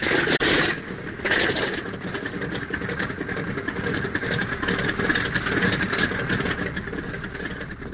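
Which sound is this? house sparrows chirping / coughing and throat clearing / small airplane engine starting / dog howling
small airplane engine starting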